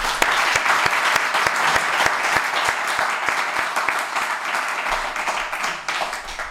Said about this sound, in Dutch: Ja, mag ik applaus voor Koen de Jong.